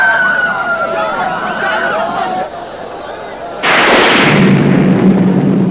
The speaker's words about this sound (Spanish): Tras la explosión provocada por el incendio, la gente mira perpleja hacia los restos del escenario.